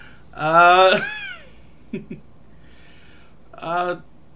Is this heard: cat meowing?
yes